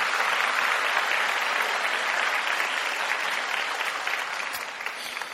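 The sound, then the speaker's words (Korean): Steady applause from an audience at a worship service, given for a musician's playing, fills the whole stretch, a dense crackle of many clapping hands at even strength that only tapers slightly toward the end, with no voices over it. “매주 올라오는데 박수 한 번 더 보내주시고.”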